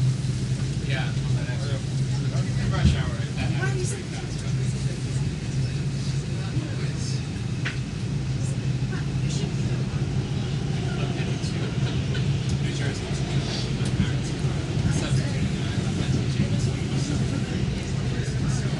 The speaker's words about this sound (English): Now this is an express train, which means it doesn't stop as much. The locals stop every about 10 blocks. The express trains don't stop as often, usually about every 20. This particular one is, I believe, a Brooklyn-bound subway.